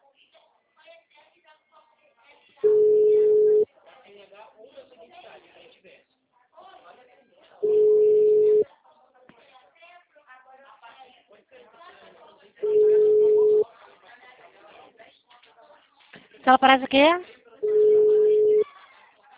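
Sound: telephone tone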